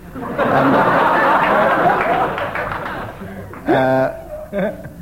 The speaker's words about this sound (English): The length of the applause for that was 5 seconds, which shouldn't take very long to beat.